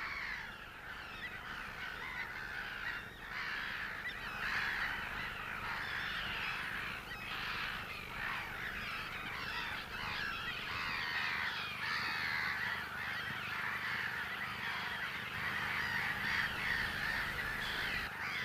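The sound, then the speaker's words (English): A dense, unbroken chorus of many birds calling at once on a lagoon at night in pitch blackness, harsh cawing and squawking calls overlapping steadily throughout, fairly loud, with no one talking. “But the sounds that's on this lagoon at the moment is amazing. So I'm going to stay quiet. It's about the bird sounds.”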